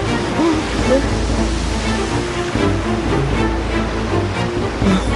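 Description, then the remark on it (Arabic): Heavy waves roar and churn without pause at sea in a severe storm, a loud, dense wash of rushing water that swells slightly in places over a deep low rumble. “الأمواج عالية.”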